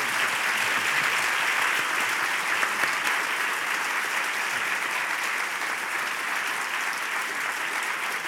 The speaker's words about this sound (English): We thank all the candidates for governor for being with us. J.B. Pritzker, Chris Kennedy, State Senator Daniel Biss, Bob Diver, Dr. Robert Marshall, and T.O. Hardeman. Let's offer a round of applause for our candidates.